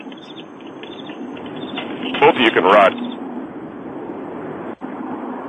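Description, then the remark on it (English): Steady crickets chirping with a faint campfire crackle, heard through a thin, phone-like line, with a man's voice briefly speaking over them midway. “And I'm hearing crickets and a campfire.”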